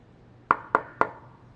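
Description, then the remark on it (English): Three firm, evenly spaced knocks on a wooden door by Mr. McFeely making a delivery, clear, with a quiet pause after the last one and no voices. “Oh, someone is at my door.”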